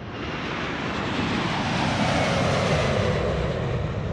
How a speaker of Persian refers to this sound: در این سفر، هنگامی که هواپیما اوج گرفت